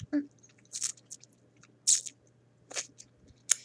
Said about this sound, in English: Oh, sorry. Could you hear that? I'm chewing some really good gum. You know the one, I think. What's that new flavor? Oh, right. Bubbleberry or something. Yeah, that's the one.